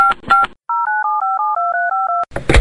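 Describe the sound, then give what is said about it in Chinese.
A quick series of electronic telephone keypad beeps, about six dual-tone presses in a steady rhythm, loud, with brief noisy bursts before and after, as an extension number is dialed into a phone registration line. “你有难言之隐，请拨六六六。”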